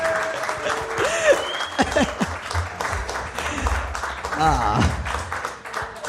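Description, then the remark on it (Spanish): Loud applause from a crowd, a dense steady wash of clapping that lasts the whole stretch, with scattered voices and cheers rising through it. “Fuerte aplauso.”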